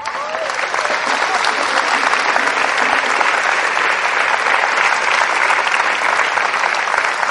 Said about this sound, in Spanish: El único que tiene derecho a entrar en tu mente y a reinar se llama Jesús de Nazaret, para el cual pido un aplauso.